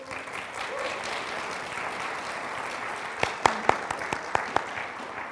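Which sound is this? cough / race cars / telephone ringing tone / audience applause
audience applause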